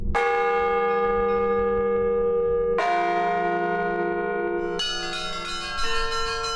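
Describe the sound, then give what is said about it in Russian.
Church bells ring from a bell tower, three strong strikes arriving at roughly two-second intervals, each with a bright metallic attack and a long shimmering decay that overlaps the next. No voices are heard. “После барабанной репетиции – на колокольню.”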